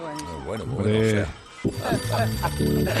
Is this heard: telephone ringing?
yes